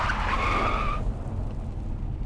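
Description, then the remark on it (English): Car tires skid with a sharp, high-pitched squeal lasting about a second as the car swerves around a sharp corner on messy roads during a thunderstorm, riding over a steady low engine rumble that continues alone after the screech cuts off. “I'm practically swerving left and right as I come around a sharp corner.”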